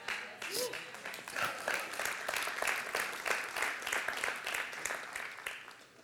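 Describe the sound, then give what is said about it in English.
An audience claps steadily, a dense wash of overlapping handclaps that holds fairly level for several seconds before tapering slightly at the end, with faint voices mixed in. “I thought I would get that lid off a little bit faster so I could drink by the time you're done clapping”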